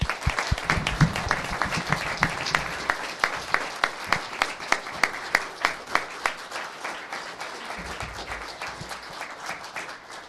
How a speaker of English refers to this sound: Thank you, Councilman Peterson and Mayor Watts, for joining us today. If everyone would please join me in a round of applause for them.